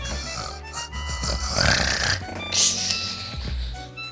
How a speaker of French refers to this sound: Imperturbable, son oiseau ronfle toujours. Le professeur le secoue.